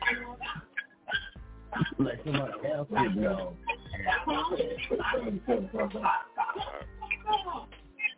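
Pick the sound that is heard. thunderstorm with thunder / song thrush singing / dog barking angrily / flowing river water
dog barking angrily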